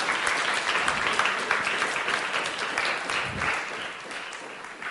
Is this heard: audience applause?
yes